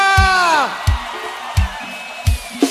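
A loud crowd cheers and whoops at a live show in Vitória da Conquista, Brazil, with one long falling yell standing out at the start, over a steady thumping beat that repeats about every second.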